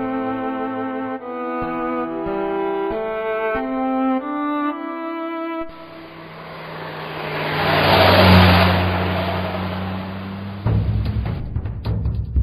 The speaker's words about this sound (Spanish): Automovilismo. Soy un coche de carreras, el bólido más veloz, pintado el número uno en medio de mi alerón.